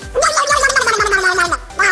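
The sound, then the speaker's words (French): Actress Isabelle Adjani imitates a duck for the French TV show Platine 45, with a raspy, buzzy, gargling voice, producing loud, sputtering quacks that run almost continuously for under two seconds, with no ordinary speech. “T'aimes bien les canards ? Oui, pourquoi ? Ce serait bien que tu fasses une petite imitation, non ?”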